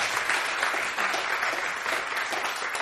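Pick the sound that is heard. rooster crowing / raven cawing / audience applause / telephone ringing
audience applause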